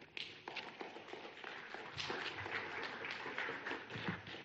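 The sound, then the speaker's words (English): A crowd at a meeting claps steadily, a dense crackling patter of many hands that holds at an even level for about four seconds without pause. “No clapping during this part of the meeting.”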